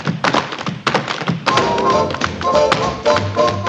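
Tap shoes strike a hard floor in quick, irregular bursts of sharp clicks and heavier thuds as Donald O'Connor and Gene Kelly tap dance side by side in a scene from the film Singin' in the Rain, with faint tonal music underneath from about midway.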